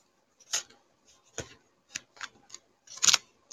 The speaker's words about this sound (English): We got the first card out. And shuffle it a little bit more.